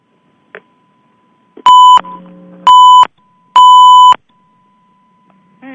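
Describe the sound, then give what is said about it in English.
Three loud electronic beeps from a phone line, each lasting about half a second and evenly spaced, with a lower buzzy tone between the first two and faint clicks before and after. “I'm hearing lots of beep.”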